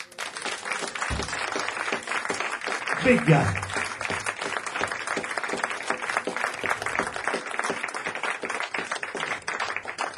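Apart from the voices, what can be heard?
audience applause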